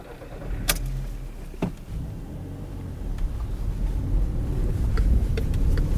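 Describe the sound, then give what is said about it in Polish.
A car's interior hum and low engine rumble as it drives through Białystok city streets from the Polish Radio Białystok building toward the City Hall, at up to 50 km/h, with a few sharp clicks and knocks, the road noise building slightly toward the end. “Samochodem czas start.”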